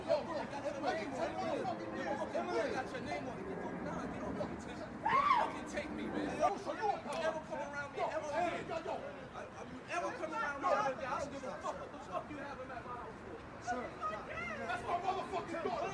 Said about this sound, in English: You hear the kids screaming?